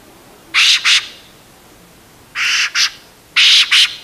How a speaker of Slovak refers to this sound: Takže všetky zvieratá, keď sojka takto ostro zaškrieka, tak vedia, že letí jastraba, alebo prišiel hubár do lesa, alebo vidí polovníka.